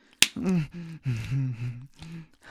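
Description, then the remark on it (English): A single sharp slap of a hand against the buttocks, a crisp smack right at the start, followed by drawn-out vocal moaning with no clear words. “Slap it again.”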